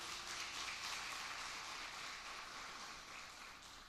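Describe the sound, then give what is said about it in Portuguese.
An audience claps for God at a preacher's call during a sermon, a dense, continuous wash of applause from many hands that holds at an even level for several seconds before easing slightly, with no voices. “Aplauda a ele se você está comigo.”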